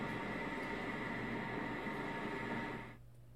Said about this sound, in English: We're meeting in the subway section of Yokohama Station. It's a weekday evening and the station's packed full of people of all ages heading home from work and school.